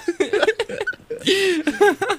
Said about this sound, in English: that was good. That was probably like really loud. I really just like gurgled right into the mic